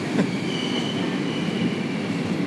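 A train rolls steadily along the rails, its continuous low rumble fairly loud, with a faint high metallic whine running underneath and no voices.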